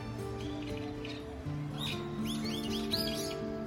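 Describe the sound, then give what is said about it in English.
Small birds chirp in quick, high arcing notes, a few at first and then a busier cluster toward the end, over a steady low hum of background noise. “I find myself drawn to the early sunrise, the fresh air, and songs from the birds.”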